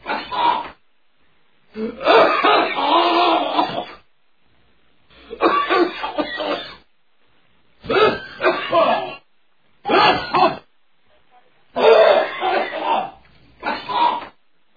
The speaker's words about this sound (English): Terrible coughing. Sorry.